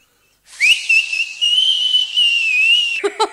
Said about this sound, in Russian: Сейчас я свистну.